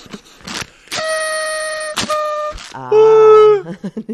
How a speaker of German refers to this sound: Ja, nimm du auch mal eine Tröte.